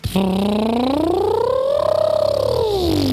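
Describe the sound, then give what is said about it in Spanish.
In a motorbike-imitation contest on Europa FM radio, a person imitates a motorbike engine with one continuous buzzing, voiced hum that climbs steadily in pitch like a rev, holds high, then drops back down, steady and fairly loud throughout. “Concurso de imitar motos, Eva Soriano y yo.”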